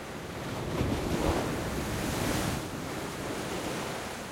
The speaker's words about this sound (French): Entendre le son des vagues lorsqu'elles s'agrippent à la terre ferme.